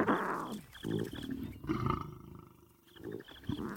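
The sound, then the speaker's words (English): A massive male lion growls in several deep, rumbling bursts, loud, with short pauses between each throaty snarl, as a young male cub goes up against him; no voices present. “It takes a certain strength of character to go up against a male lion over five times your size, but cubs have the ability to disarm aggression with sheer cuteness.”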